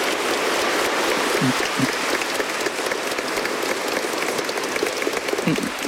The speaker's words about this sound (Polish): Te oklaski oczywiście dla Pana Jezusa i dla Matki Bożej.